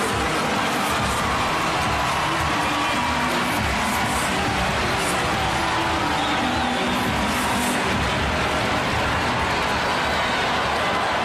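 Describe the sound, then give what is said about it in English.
A large ballpark crowd at a baseball game cheers and applauds as a batter returns to the batter's box, in a dense, sustained roar lasting about eleven seconds, steady and fairly loud, with no distinct speech rising above it. “Listen to the crowd welcome Caleb Durbin back into the batter's box.”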